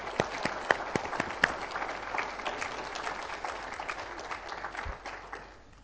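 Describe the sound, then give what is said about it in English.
A crowd applauds for several seconds as flowers are presented, a dense patter of many hands clapping with a few sharper individual claps standing out, steady in loudness before thinning out at the end. “And give a round of applause.”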